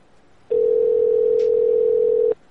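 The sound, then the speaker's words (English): A telephone call to a barbecue place ringing on the line: one steady, unbroken mid-pitched ring tone lasting nearly two seconds, loud and alone with no talking, then it cuts off. “I think it's going to voicemail.”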